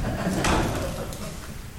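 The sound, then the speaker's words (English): A door is pushed shut, a single soft thud with a brief scraping rustle, followed by quiet background noise with no talking. “I know in theory, the chances of some horrible person coming and attacking me from behind when the door is closed is not really all that different from the same when the door is open, but still, it's unsettling.”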